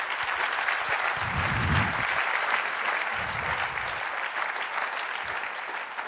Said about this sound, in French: On peut l'applaudir.